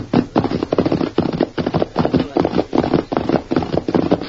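The hooves of a sorrel pony clip-clop at a steady walking pace along a hillside trail, a continuous run of fairly loud knocking steps with no voices over them.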